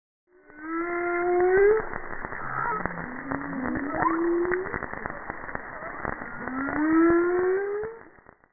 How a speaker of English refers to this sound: Let's take a listen to some marine ocean noise captured via a NOAA hydrophone in American Samoa National Park. These are humpback whale vocalizations with snapping shrimp in the background.